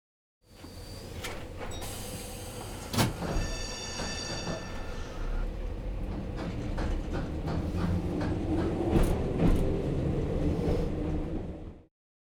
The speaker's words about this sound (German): Die Straßenbahn.